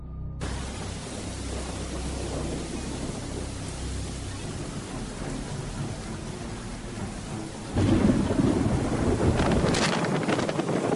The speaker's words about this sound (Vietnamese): Trời mưa như trút nước, những giọt mưa quất rằn rạc trên nóc chiếc xe đang chạy hết tốc độ.